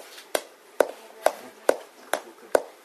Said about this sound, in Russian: Да, эмоции, много чего. Походка, стук.